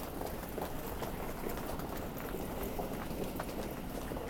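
Hurried footsteps of frustrated passengers at East Croydon station, by platform 4, running to catch a correct connecting train during a major disruption; a steady patter of quick steps blending into a dense wash of station bustle and murmuring crowd noise, with no clear speech.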